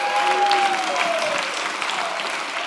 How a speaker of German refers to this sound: Oh, hier seht ihr jetzt das stärkste Kivo-Kind. Applaus für das stärkste Kivo-Kind.